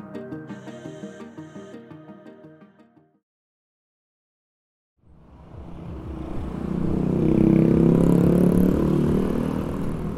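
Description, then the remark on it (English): After a short musical jingle and a brief silence, a dense wash of Asian city traffic rises in, motorbike and car engines droning and swelling to a loud, continuous roar with no voices. “In a lot of places, it's also mopeds and motorbikes and rickshaws and tuk-tuks.”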